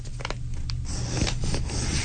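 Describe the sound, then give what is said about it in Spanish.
Many pencils in a container scratch and rub together, a dry, continuous scraping that stays fairly steady for about two seconds with no voices. “Es un lápiz. Son muchos lápices”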